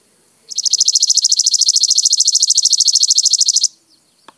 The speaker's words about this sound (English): Okay. That was the Chipping Sparrow.